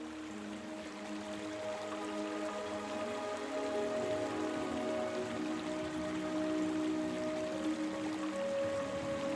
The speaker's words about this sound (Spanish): Por allí pasa muy cerca el río que os regala el sonido del fluir.